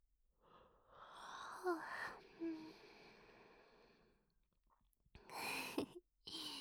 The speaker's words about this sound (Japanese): つられてあくびしちゃった。